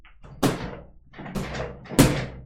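A chair knocks heavily three times at uneven intervals, dull wooden thumps with a short rumbling tail, muffled as if coming through a wall, with no talking.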